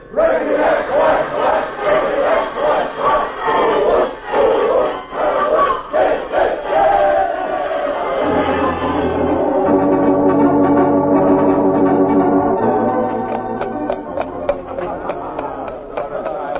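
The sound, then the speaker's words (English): A crowd of voices shouts a loud, rhythmic cheer for the team in bursts, then settles into a steadier chorus of sustained, tuneful chanting that carries on to the end. “Here's the team, gang. Let's have a cheer for them.”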